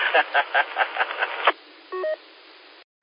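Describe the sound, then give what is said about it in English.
Tinny, band-limited radio speech breaks off, then a short two-tone electronic roger beep chirps clearly over faint static before the transmission cuts out. “Roger, beep at the end of every transmission there.”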